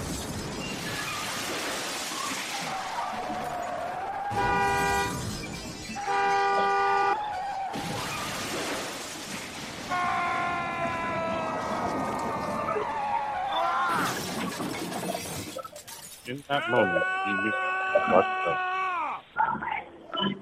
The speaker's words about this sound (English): What is all that noise? I just crashed the car. For real this time, though.